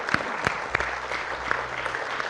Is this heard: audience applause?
yes